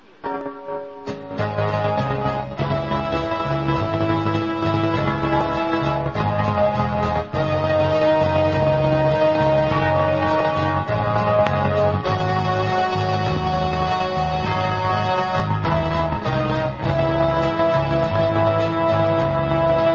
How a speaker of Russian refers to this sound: И давайте в конце нашей передачи послушаем одну из моих песен.